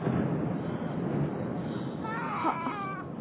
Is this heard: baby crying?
yes